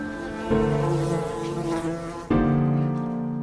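Steady buzzing of bees with a strong harmonic drone, swelling louder at two points, with no voices present.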